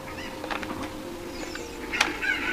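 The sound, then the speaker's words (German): A few short, clipped clucks from a chicken up above come in scattered bursts, fairly quiet, with a sharper click near the end over a low background hum. “Da oben ist noch ein Huhn.”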